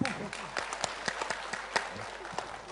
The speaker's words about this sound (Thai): ปรบมือท่านนะครับ